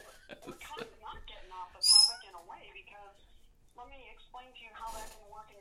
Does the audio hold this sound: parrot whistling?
yes